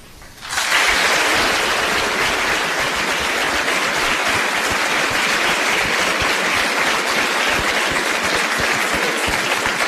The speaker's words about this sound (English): These gentlemen have done a fine job. You've been a great audience. Let's give them another round of applause and thank them for being here tonight.